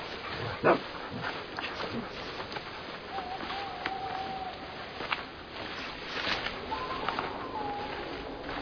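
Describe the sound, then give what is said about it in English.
Dogs bark in short, sharp bursts, with one loud bark near the start and a few scattered ones after, over a busy, noisy background with faint muffled voices. “And don't try to run. My dogs are faster than you.”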